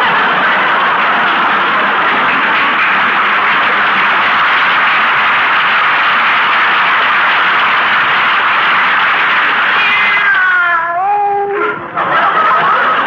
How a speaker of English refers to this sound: Drinking those pine needles, Minerva. Come over here. That's a good kitty.